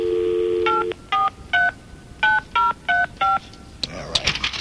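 A steady dial tone gives way to seven crisp, evenly spaced touch-tone beeps as a number is punched in to call a contest winner, each a short two-pitched chirp, followed by a burst of crackly line noise.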